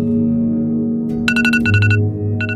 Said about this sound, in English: The journey began with an alarm beeping on a handset made by Apple, which has a 62% market share in America.